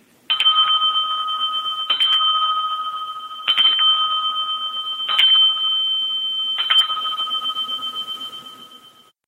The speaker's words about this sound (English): if you don't start listening to Mr. Media, I'm going to have to ding my bell